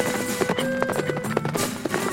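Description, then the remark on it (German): Horses' hooves clip-clop in a steady, brisk rhythm as riders mount and set off, the repeated sharp knocks moderately loud, with no voices. “Wir bestiegen die Pferde und ritten los.”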